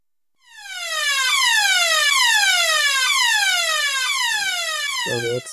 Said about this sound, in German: Dies ist keine Übung. Ich wiederhole, Feueralarm. Bitte verlassen Sie das Hotel jetzt sofort durch den nächsten Notausgang.